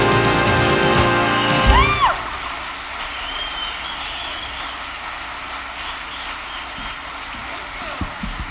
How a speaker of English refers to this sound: Thank you, thank you. My goodness. Keep clapping, I'm still out of breath.